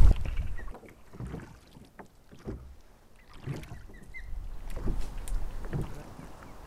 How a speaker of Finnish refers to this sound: Soudettiin nyt rantaan takaisin, mutta meillä on silti tästä näköyhteys pesälle.